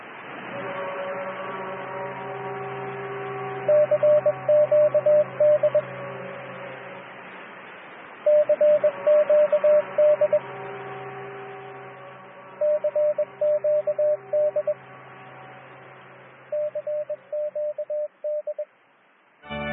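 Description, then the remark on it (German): A beeping radio distress call: four bursts of rapid, high Morse-style tones repeat every few seconds over a steady hiss of radio static and low hum. “Aus dem piepsenden Notruf hat sich schließlich der Rundfunk entwickelt, mit Sprache und Gesang.”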